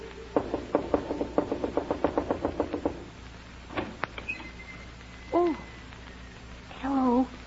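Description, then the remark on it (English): A quick, steady run of about a dozen sharp knocks on a door, followed by a couple of faint clicks and two short, squeaky chirping sounds. “Whatever do you mean by knocking on my door when the sign plainly says, Absolutely no knocking until after 9 o'clock daylight saving moon time.”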